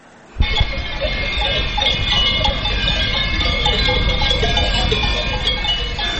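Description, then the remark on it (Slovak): Many livestock bells clank and jingle continuously in the countryside of Liptovská Teplička, an irregular, overlapping jangle, a steady dense metallic chiming with a low rumble underneath, starting abruptly after a brief quiet moment. No one speaks. “Je tu jedna otázka, ktorá sa týka Liptovskej tepličky a ja preto poprosím zvukového majstra Ľuboša Veselého, aby nám aspoň tú prírodu a ten vidiek v Liptovskej tepličke priblížil napríklad tými zvončekami.”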